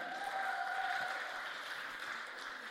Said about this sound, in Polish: Super, wspaniale. Wielkie brawa